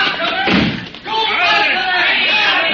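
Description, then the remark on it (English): A heavy door slams shut with a loud, low thud early on, followed by the clatter of it settling, while voices and commotion carry on throughout. “Look around while I bar the door.”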